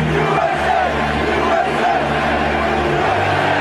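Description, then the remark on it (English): A large ballpark crowd of Yankee fans roars in a loud, sustained chant of "USA" as President Bush walks out of the dugout, many voices blending into a dense, continuous wall of sound with faint rhythmic swells throughout. “The crowd just erupts in a chant of USA.”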